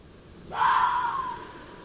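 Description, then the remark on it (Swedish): A single harsh, drawn-out fox scream, loud and raspy with a strained, high cry that trails off over about a second, standing alone against quiet background hiss. “Ja, vi hörde tidigare i morse faktiskt det här ljudet från räven när de skriker.”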